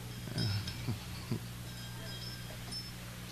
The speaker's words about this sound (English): It's a wonderful bell.